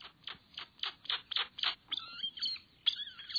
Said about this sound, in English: The ani's large, flattened bill spits out these sharp, high whistles, slurred whinings, and various squeaks, pips, and growls.